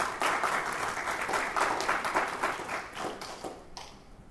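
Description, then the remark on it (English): A group applauds after a prayer during a Sunday scripture service, with steady, dense clapping for several seconds, a bright crackling wash of many hands that thins out and fades near the end, with no voices over it. “Should we clap? I think we should probably do that.”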